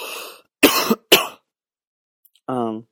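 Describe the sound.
Two sharp, loud coughs in quick succession, with a short breathy sound just before and a brief voiced utterance shortly after.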